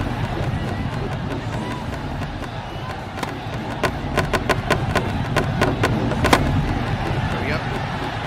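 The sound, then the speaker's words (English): A steady, dense roar of a video game crowd cheering fills the whole stretch, with a run of sharp, rapid clicks and thumps breaking through in the middle before the roar carries on. “So when the crowd cheers, what is that supposed to mean?”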